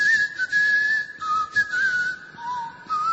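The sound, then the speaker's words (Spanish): Someone whistles a short tune alone, a clear steady tone stepping between a few pitches in sustained phrases, moderately loud over a faint hiss. “¿por qué es tan difícil escuchar silbar a un cantor?”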